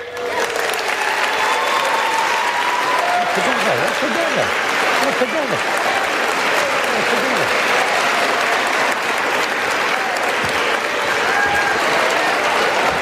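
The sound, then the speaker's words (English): Steady, dense applause from a large crowd in a legislative chamber fills the whole stretch, a loud continuous wash of clapping with a faint murmur of voices beneath it, never fading or breaking. “You're supposed to be clapping for that.”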